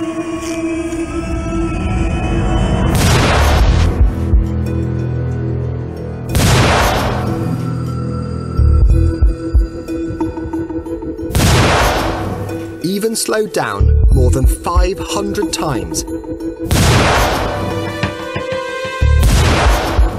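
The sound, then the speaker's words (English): Tiny single drops of nitroglycerin explode in a series of deep, drawn-out booms, about four blasts spaced several seconds apart, loud, with a man talking between them. “The explosion is incredibly fast. It's just one tiny drop of nitroglycerin.”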